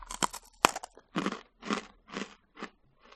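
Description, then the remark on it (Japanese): A very hard, cracker-like sweet with a yuzu bean-paste filling snaps with a few sharp, loud cracks, then four steady, rhythmic crunching bites follow as it's chewed. No one speaks. “これ、割れる音聞けるんじゃないのかな。”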